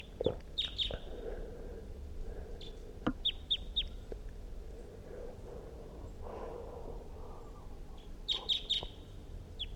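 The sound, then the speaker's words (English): A wild bird that has just come in calls repeatedly while perched in a tree above a net, giving short, high-pitched chirps in small clusters with pauses between, over a faint background hum and rustling. “It was singing, giving a Pazzi's song phrase, and it's perched now on the tree above the net, giving calls.”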